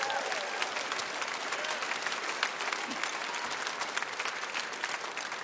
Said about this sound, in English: Bible says, clap your hands, all ye people, shout unto God with a voice of triumph.